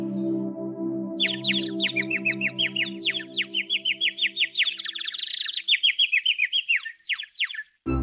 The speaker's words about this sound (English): On the third day, they saw a bird, white as snow. The bird chirped songs with its beautiful voice for them.